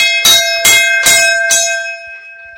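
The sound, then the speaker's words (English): A hand-rung golden brass bell hanging behind the seat of a 1928 Model A Ford fire truck clangs four times at a steady, fairly quick pace, loud, its bright metallic tone ringing on and slowly fading after the last strike. No voices. “If that didn't get your attention, there's also this golden bell that hangs behind the seat.”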